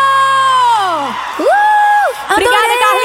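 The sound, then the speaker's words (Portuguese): A crowd lets out loud, high-pitched shrieks and whoops, one long swooping scream dropping in pitch, then another sustained squeal, followed by a burst of mixed cheering voices. “Cadê o gritinho?”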